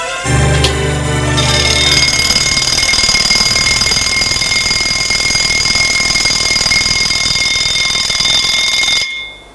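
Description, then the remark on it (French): An alarm clock, set for 11:30, rings continuously and loudly for about nine seconds, a steady high-pitched electronic tone with sharp harmonics, starting after a brief low rumble and cutting off abruptly at the end. “Le réveil a sonné, il se lève, s'habille et sort de chez lui.”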